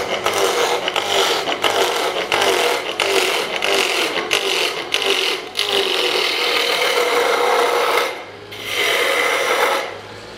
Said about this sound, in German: Vorher aber erklärt er noch die Maschine. Ist eine ganz kleine Drehbank.